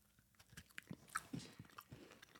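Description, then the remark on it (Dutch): Quiet crunching as someone bites into something dry and chews it, with irregular crisp crackles and soft mouth sounds over a couple of seconds, no talking. “Oké, ik ga een hapje nemen.”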